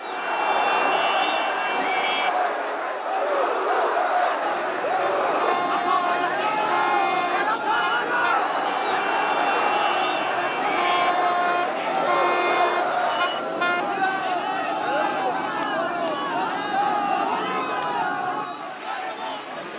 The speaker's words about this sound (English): Motorcade crowds were the most emotional near the University of Tehran